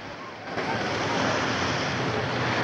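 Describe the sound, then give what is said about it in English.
A steady, rushing wash of ocean surf at a sandy beach lined with rows of green and white umbrellas and wooden deck chairs, swelling slightly after the first half-second and then holding a dense, continuous roar with a breezy, windy edge. No one speaks. “A sandy beach lined with rows of green and white umbrellas, wooden deck chairs laid out beneath them.”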